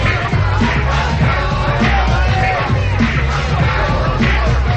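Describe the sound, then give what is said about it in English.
A loud, dense crowd at a teen party downstairs, with overlapping shouts and yells over a steady thumping low bass beat, continuous throughout with no pauses. “Jack walks downstairs and continues to search the crowd.”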